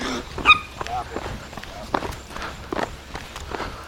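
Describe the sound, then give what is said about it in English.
A small Jack Russell Terrier–Chihuahua type dog gives one sharp, high-pitched bark, then pattering footsteps and light scuffling carry on under faint background voices. “Good morning to you, and a bark to me. It's one of those little brave Jack Russell Terrier Chihuahua type little dogs that always make a lot of noise.”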